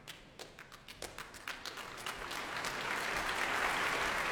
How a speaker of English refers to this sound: The spirit of delight currently making his way on stage is Carmine Lowry, the leader of the London Symphony Orchestra tonight, taking applause here at a completely packed Royal Albert Hall.